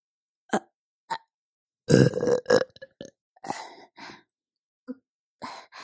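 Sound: burping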